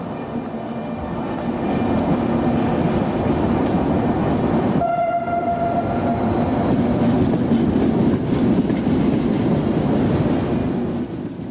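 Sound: train running on rails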